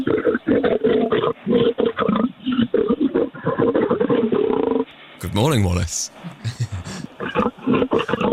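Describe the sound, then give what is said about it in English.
Several seconds of talk over a phone line, then a single loud growling roar from a lion being hand-fed steak, a good-morning roar lasting about a second before the conversation resumes. “He's talking to a lion.”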